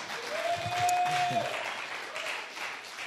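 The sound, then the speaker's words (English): Thin, scattered applause from a church audience, soft and unenthusiastic, lasting about three seconds. A faint murmur of voices and a brief steady tone sit underneath. “Well, that was a feeble clap, but that's okay, you know.”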